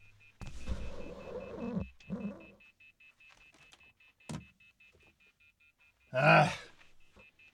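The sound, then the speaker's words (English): A fax machine emits a steady, high-pitched electronic tone that runs unbroken throughout, while rustling, clunks and a loud scraping burst near the end sound over it. “Wait a minute, we got some phone beeping here?”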